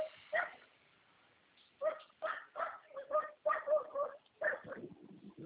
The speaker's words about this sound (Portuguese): Cachorro vai mordendo nós aqui.